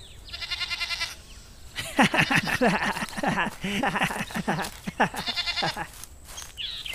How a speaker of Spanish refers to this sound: ¡Dejen esa cabra en paz!